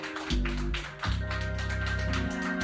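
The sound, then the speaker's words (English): An audience claps steadily and loudly for a few seconds in the sanctuary of the Exodus Healing and Deliverance Temple in Brooklyn, New York, giving the Lord a hand clap, the sharp overlapping claps riding over sustained low organ or bass chords. “Come on, give the Lord another hand clap all over the sanctuary.”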